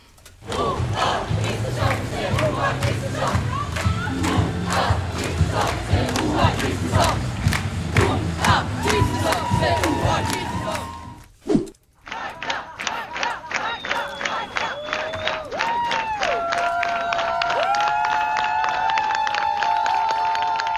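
A large crowd at an election campaign rally, during the prime ministerial rivals' tour, cheers and shouts loudly with steady rhythmic clapping; after a brief cut, the roar picks up again with shrill whistles piercing through the cheering.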